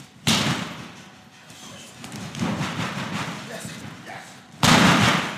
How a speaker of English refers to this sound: The training gym has several rings. The fighters jump over each other, charge at one another, and practice how to fall when they get slammed down.